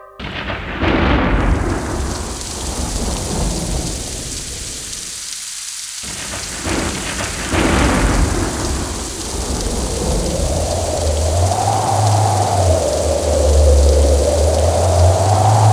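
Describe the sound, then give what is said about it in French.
A loud thunderstorm with heavy, steady rain pouring down, deep thunder rumbling and rolling through, with a brief hush before the downpour and rumbles swell again. “Ces apprentis sont les intempéries. La pluie, le vent, les orages”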